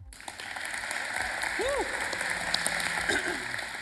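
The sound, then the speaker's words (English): A crowd applauds steadily to welcome two guest speakers, a dense wash of clapping that holds at an even loudness throughout, with a brief rising-and-falling whistle or voice cutting through midway. “Be very, very leery of preemptive applause.”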